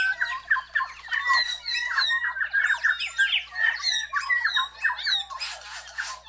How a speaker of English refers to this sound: Many birds sing together, especially in the morning. Pairs sing duets, and a pair may countersing with its neighbors, perhaps letting them know that this patch of land is taken. It all builds to a brilliant, ringing dawn chorus.